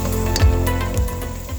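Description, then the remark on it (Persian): Frozen herbs heat on the stove in a dry Teflon nonstick pot without oil to drive off their excess water, giving a steady hiss of steaming moisture with a low hum underneath and a few soft crackles and squishes. “سبزی رو توی قابلمه تفلون بدون روغن اول بذار روی گاز چند تا تف بده تا آب اضافیش گرفته بشه، مخصوصا اگه سبزیت سبزی یخ زده است.”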